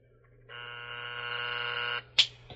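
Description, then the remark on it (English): A telephone being dialed to call a cab company: a steady, buzzy electronic tone drones for about a second and a half, cuts off, and a single sharp click follows. No voices. “Well, I'm on the phone. I'll be with her in a minute. Hello? Superior Cab Company?”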